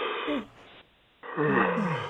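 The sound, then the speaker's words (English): A drawn-out yawn released as a voiced, sighing exhale during a mindful yawning exercise, its pitch sliding downward, followed by a short quiet pause and a second, louder falling sigh-like yawn. “You're breathing in, and you're kind of making a sighing sound as you exhale.”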